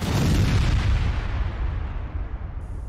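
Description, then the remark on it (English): A kitchen sink running or draining, a loud, steady rush of water with a deep rumbling undertone that gradually eases off over a few seconds, with no one speaking. “Oh, that was literally the sink.”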